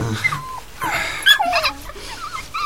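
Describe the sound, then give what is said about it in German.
Five puppies from a dog's new litter whimper and whine in thin, high, sliding cries that overlap one another, fairly steady throughout, with soft snuffling breaths between them and no talking. “Hier sind die Kleinen. Und wir versuchen, sie unterzubringen. In netten Familien oder so. Welpen.”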